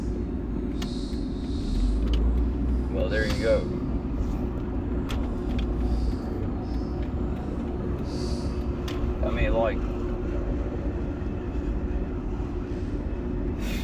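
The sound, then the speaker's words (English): Vehicle brakes squeal in short high-pitched bursts over a steady low road rumble, with a man talking casually inside the cab. “I enjoy the sound of these brakes.”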